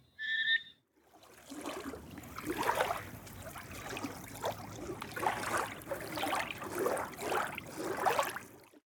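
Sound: lake water splashing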